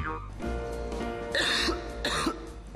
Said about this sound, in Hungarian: A köhögés sosem jön jókor, de legyen szó száraz, irritáló vagy makacs hurutos köhögésről, a Robitussin köhögés csillapító és köptető termékei hatékonyan segítenek leküzdeni.